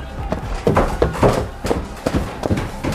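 Hurried footsteps of several attackers running up to the top floor of a building, a rapid series of thudding steps with uneven rhythm and some clattering, fairly loud with no talking.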